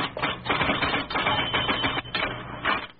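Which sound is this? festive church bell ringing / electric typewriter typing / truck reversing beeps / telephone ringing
electric typewriter typing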